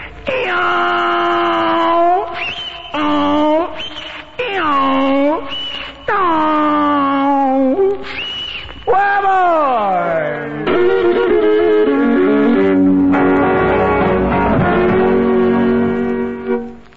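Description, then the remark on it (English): A loud, high-pitched yell rings out in a series of sharp, rising-and-falling whoops, then stretches into a long, sliding, wavering wail that carries on without pause. “I think old … is a fixing to let out one of the keenest yells you ever heard in your life”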